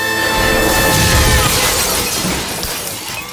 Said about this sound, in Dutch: Alle potjes vielen stuk, buiten op de grond.